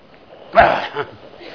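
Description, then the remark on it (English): A harsh cough bursts out, followed a moment later by a second smaller hack, like someone caught in a brief coughing spell, with only quiet background noise around it. “I need my cough medicine.”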